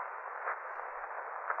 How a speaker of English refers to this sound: rustling. Hissing sound. Coming from that corner. Come on, look. I see. Eyes staring at us. Pull it, Mark. Is it a snake? Looks like it, Margot. Looks very much like a snake.